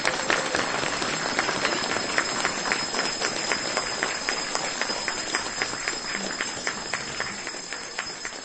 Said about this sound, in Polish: Brawa dla księdza Józefa!